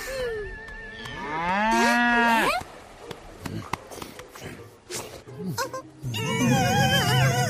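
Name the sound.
cow mooing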